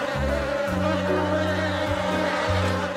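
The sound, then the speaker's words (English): A steady, droning hum of bees buzzing together in a nest in a house attic, continuous and fairly loud throughout, with slight shifts in pitch as the swarm moves; no voices. “It only came back to me once I started hearing the hum coming from upstairs about 4 months later.”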